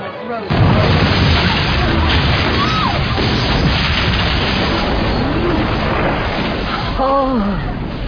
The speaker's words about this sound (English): Oh, fireworks, lovely.